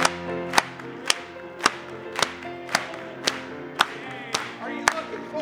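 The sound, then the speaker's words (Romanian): An audience clapping together to the Lord in steady unison during worship singing, about two claps per second, sharp and fairly loud over sustained music and singing. “Haideți să aplaudăm Domnului!”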